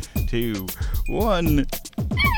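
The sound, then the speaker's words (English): A cat named Hello Kitty meows several times in quick succession inside a cool house, fairly loud, each call with a rising and falling pitch, with brief pauses between. “And that's Hello Kitty, of course.”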